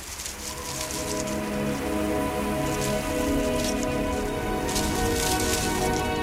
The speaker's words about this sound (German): Hören Sie die Blätter fallen?